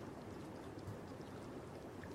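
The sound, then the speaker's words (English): Steady, continuous rush of flowing water from a natural hot spring, a dense watery hiss with no pauses, even in loudness throughout; the spring has the highest mineral content of any in the world, with 8,400 gallons rising to the surface every 5 minutes. “Natural hot springs are the best.”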